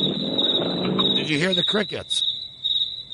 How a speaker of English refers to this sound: Did you hear the crickets?